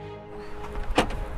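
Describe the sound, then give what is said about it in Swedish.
A bag is tossed into a car trunk with a single dull thump, preceded by faint rustling and followed by light shuffling noises. No one speaks. “Jag slänger min väska hit i bakluckan.”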